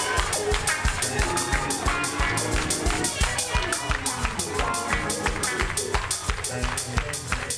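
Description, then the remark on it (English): An audience shouts and cheers loudly and continuously, with overlapping voices and steady rhythmic clapping running through the whole stretch. “Y'all shouting on the appetizer.”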